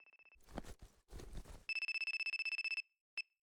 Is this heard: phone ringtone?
yes